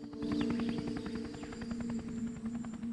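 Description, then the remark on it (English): A helicopter drones steadily overhead in the sky above people emerging from a jungle, its rotor blades thumping in a fast, even rhythm over a low engine hum, fairly loud and sustained throughout with no voices. “he looks up and spots a helicopter in the sky above them.”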